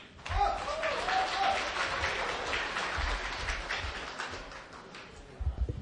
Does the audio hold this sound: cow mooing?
no